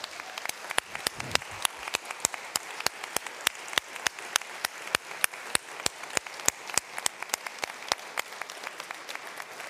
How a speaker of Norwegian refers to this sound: Og her kan vi klappe til fingrene blir sår.